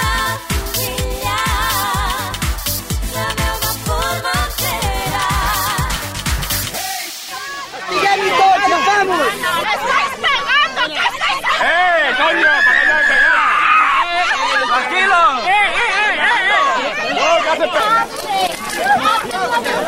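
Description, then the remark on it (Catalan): A dense crowd shouts and yells over one another in chaotic, agitated bursts, with scattered screams and running commotion as Guardia Civil riot police clash with people protesting the start of works without prior notice at the Can Bernat estate in Sant Rafel, after a short stretch of steady rhythmic noise. “Estem escoltant una de les escenes de tensió viscudes entre els antiavalots de la Guàrdia Civil i la gent que protestava per l'inici d'unes obres sense notificació prèvia a la finca de Can Bernat a Sant Rafel.”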